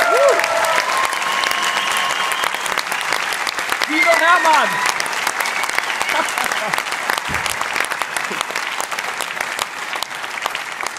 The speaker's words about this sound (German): Wow, ein großer Applaus!